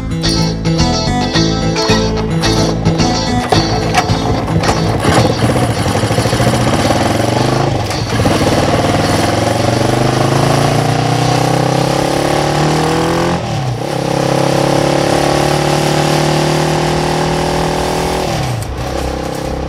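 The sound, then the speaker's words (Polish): A two-cylinder Yamaha 400 motorcycle engine runs loud, starting with a choppy, popping idle, then revving repeatedly so its pitch sweeps up and back down in long waves. “Mam motocykl Yamaha 400 dwucylindrowo.”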